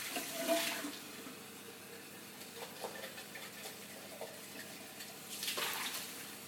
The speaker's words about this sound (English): I just spilled hot water all over myself. Ow. That seriously hurt.